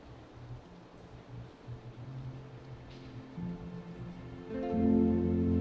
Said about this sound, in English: Breathe and listen to the raindrops outside.